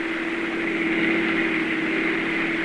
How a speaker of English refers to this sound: The story itself begins as a car moves along a snow-covered street. There are three men in the car.